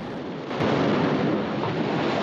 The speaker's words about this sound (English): He watches as Piggy's body is washed out to sea by the large foaming waves that break over it.